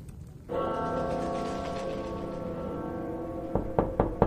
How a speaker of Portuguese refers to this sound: Tiamat batia na porta no endereço que constava no mural de missões